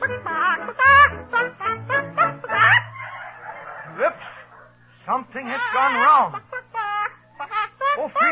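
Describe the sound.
A voice imitates a straining hen named Frida trying to lay an egg in a contest, with a quick run of loud clucks, a drawn-out strained squawk, then rising, wavering cackles and more clucking.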